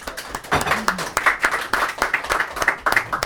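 An audience applauds, dense overlapping claps forming a steady, fairly loud patter that lasts throughout, with a brief vocal sound rising through it early on.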